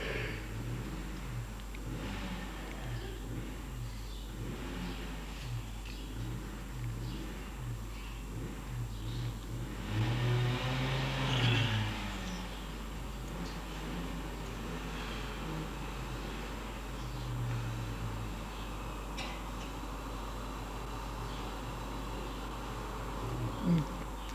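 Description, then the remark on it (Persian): Motorcycle engines buzz and rev with a steady droning hum, starting up every day as the class begins, their pitch wavering up and down, and one engine swells louder for a moment partway through before settling back. “چی سرنوشتی آقا ما داریم، هر روز اینجا شروع میکنیم، تا شروع کردیم موتورها به جوش میان.”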